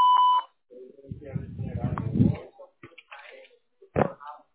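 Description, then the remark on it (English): A single short electronic call-screening beep, clear and steady, sounds at the very start, followed by a person talking with some rustling and handling noise. “but after the beep.”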